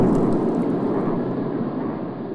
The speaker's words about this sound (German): Ja, auch Blitzeinschläge erzeugen Geräusche im Meer.